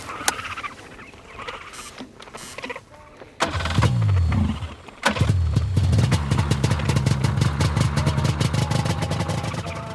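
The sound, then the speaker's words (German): A paraglider's small aircraft engine coughs into life, stalls briefly, then catches and keeps running with a loud, rapid buzzing drone over faint outdoor background sounds, on a grassy meadow with a huge yellow paraglider wing behind it. “Johannes Marie, kann ich in den Motor starten?”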